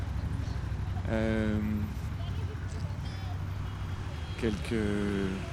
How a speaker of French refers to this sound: Alors tout d'abord, c'est Paris, c'est la nuit. Les taxis sont verts en grande quantité, ils sont libres, ils sont prêts à être empruntés. Et ils démarrent, c'est la course. La voiture noire est partie en tête assez nettement.